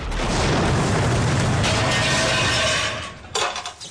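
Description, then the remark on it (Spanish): A loud explosive blast of a blackened aerosol can by a security door bursts into a sustained roar of rumbling, crackling noise for about three seconds, then cuts off into a short, sharp clatter at the end; the explosion opens a panel leading to the security control room. “El aerosol explota y abre un panel que da a la central de seguridad.”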